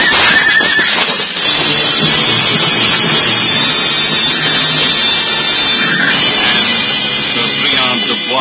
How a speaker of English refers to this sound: And then the hooves pound furiously against the turf as their masters bend low in their saddles.